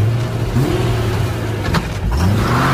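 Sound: car engine accelerating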